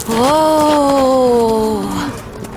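A single long, loud cow moo, low and drawn out for about two seconds, sagging slightly in pitch before it fades, with no talking over it.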